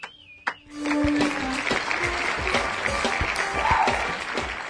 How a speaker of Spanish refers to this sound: ¡Uy! ¡Aplausos, por favor!